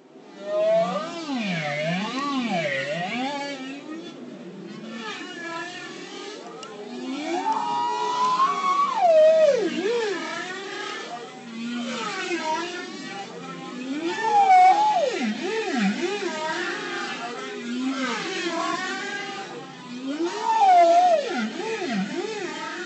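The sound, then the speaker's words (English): Long, sweeping tonal calls of an Arctic whale rise and fall in pitch, moaning and wavering like whale song, continuous and fairly loud with several distinct phrases and no talking. “And they sing these amazing, amazing songs.”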